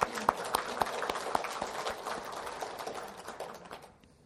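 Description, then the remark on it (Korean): An audience applauds together in a steady, dense burst of clapping from many hands, fairly loud, gradually thinning and fading out toward the end. “우리 자신의 부모님들을 포함해서 여기 계신 어르신들, 그리고 우리 주위에 계시는 우리 할아버지, 할머니들에게 감사하는 마음을 우리 한번 박수 한번 쳐드리겠습니다.”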